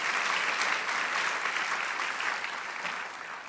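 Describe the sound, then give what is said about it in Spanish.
A church audience claps steadily in a dense, sustained round of applause, holding at a fairly even level and easing slightly toward the end, with no voices standing out. “No le da un gozo, una alegría esto, saber que, dele un aplauso, claro que sí, mientras yo tomo un trago de agua.”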